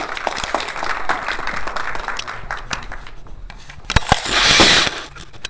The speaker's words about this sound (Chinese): 让我们掌声欢迎王老师。